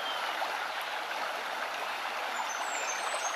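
flowing stream water

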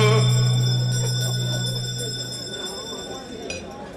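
bell ringing

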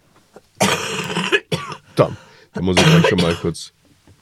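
cough

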